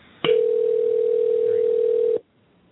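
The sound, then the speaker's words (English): A single steady ringback tone on a phone line, lasting about two seconds, loud and clear with a slightly tinny, band-limited quality, then cutting off into near silence. “I hear the ringing.”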